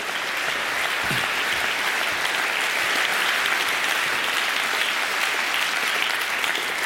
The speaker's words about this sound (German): Also nochmal ein Doppelpack für euch hier im Stadttheater Olten. Großen Applaus, Bernd Friedli!